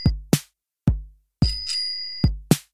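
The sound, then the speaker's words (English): A bicycle bell rings six times in Amsterdam in an irregular pattern: bright, sharp metallic dings, mostly short and quickly fading, with one longer sustained ring in the middle. No one speaks. “So forget that noise, hop on this trend and honk your horn and ring your bells.”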